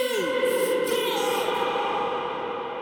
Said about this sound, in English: Then you just send it through like a massive reverb. So here's just the reverb signal.